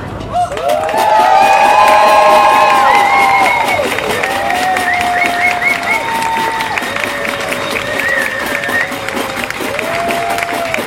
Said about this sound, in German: Einen großen Applaus, einen riesigen Applaus.